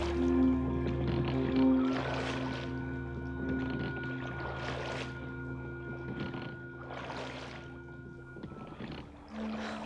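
Oars of a rowed boat dip and splash in river water in a steady rhythm, roughly every two seconds, as rowers row away from a town, with a low steady drone running underneath and no voices.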